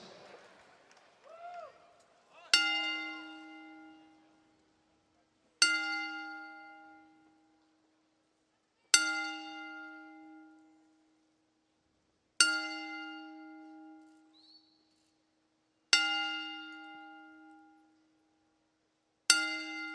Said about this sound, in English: we ask that you all rise as we honor the life of WWE Hall of Famer Mean Gene Okerlund with a 10-bell salute